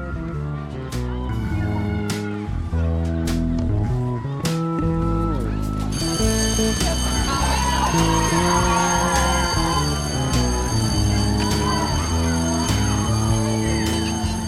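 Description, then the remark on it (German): A school bell ringing for break starts about six seconds in, a shrill, sustained metallic ring that keeps going to the end, layered over steady, tuneful notes that play throughout. “Es klingelt zur Pause.”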